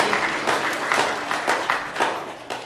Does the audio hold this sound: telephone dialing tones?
no